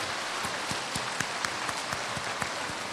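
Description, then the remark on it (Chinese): A crowd applauds steadily, welcoming Lu Junhong to give a Buddhist teaching: dense overlapping claps forming a continuous rushing texture with a few sharper hand-claps standing out. Loudness holds even throughout, with no voices. “现在让我们用最热烈的掌声恭请尊敬的卢军宏台长为我们慈悲开示。”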